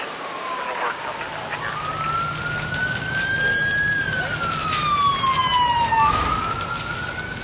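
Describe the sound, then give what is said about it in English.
An emergency vehicle siren from the Sound Ideas Emergency sound effects series, recorded at a real emergency scene, wails. It slides slowly up in pitch, holds, then falls and rises again, loud over a steady hiss of background noise. “This 2-CD set of more than 500 effects provides a full range of accident ambiences, radio dispatches, alarms, sirens, and equipment sounds, all recorded right in the heat of the action.”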